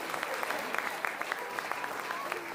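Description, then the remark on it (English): An audience claps steadily, a dense, sustained patter of many hands with sharp individual claps popping out of the wash, at moderate loudness throughout. The applause is for the children and everyone who took part in an activity before a sermon. “Give a big round of applause to everyone who's got involved now.”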